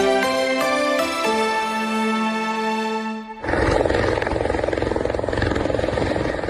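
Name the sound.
rescue helicopter flying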